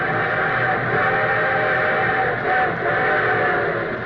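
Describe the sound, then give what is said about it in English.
A train sound effect for the Railroad Hour radio program's summer show: an approaching train rumbles loudly and steadily for a few seconds, with sustained whistle-like tones layered over the noisy clatter and no voices. “And here comes our summer show train.”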